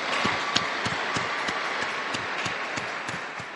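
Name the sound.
crowd applause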